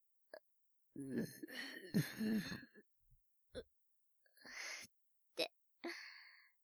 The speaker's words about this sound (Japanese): あら、今のはすかしてしまいましたけど、みんなみんな、女の子もおゲップをしているのですわ。お腹にガスが溜まってしまったら、こうやって抜くしかないでしょ？